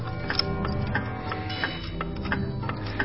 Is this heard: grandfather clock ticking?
yes